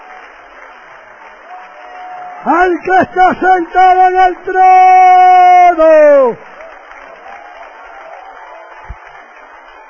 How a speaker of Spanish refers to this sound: Sigue, sigue ese aplauso, sigue. ¡Ese aplauso al Rey de Reyes!